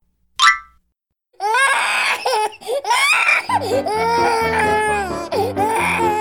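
At a park, a baby howls and cries loudly in long, wavering wails that rise and fall in pitch, after a single short boing-like blip; a steady low rhythmic pulse joins beneath the crying.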